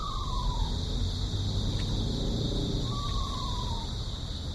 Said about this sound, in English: One night when I was out riding my bicycle, I heard a quavering song reminiscent of a horse's whinny. I thought it was a horse until I actually managed to see the small owl. This is said to be a territorial defense.